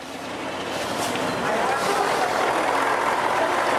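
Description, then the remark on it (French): Steady traffic noise at the bus station in the western suburbs of Kabul, Afghanistan, with the low rumble of idling bus engines and indistinct voices in the background, a continuous busy wash of sound that swells slightly after the first second. “Sa compagnie est installée dans la gare routière de la banlieue ouest de Kaboul.”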